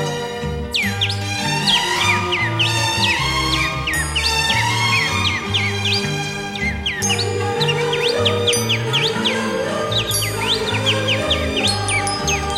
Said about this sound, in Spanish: Con un silbido entrerriano cantan y silban las aves de mis costas, Feliciano.